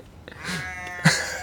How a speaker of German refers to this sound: Hört ihr das Schaf? Und den Esel. Auf der einen Seite mäht ein Schaf, auf der anderen Seite wird ein Esel vergewaltigt.